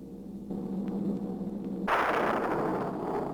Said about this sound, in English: Residents near the cemetery paid little attention to the blast of thunder and the flash of lightning.